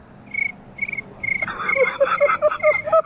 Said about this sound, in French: Tu nous fais le bruit des grillons.